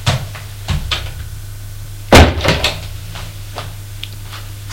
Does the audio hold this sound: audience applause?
no